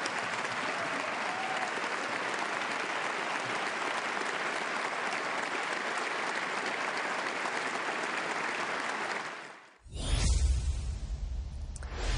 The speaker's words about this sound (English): A lot of applause and a standing ovation once again for the president on that line. He had a number of them just like that, talking about the alliance and the friendship between the United States and Canada.